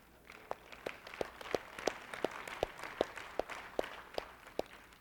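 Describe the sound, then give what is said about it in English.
An audience claps in a steady, even rhythm, about fourteen sharp, crisp beats over a soft wash of crowd noise, with no voices. “And all those who clapped, I'm signing you up.”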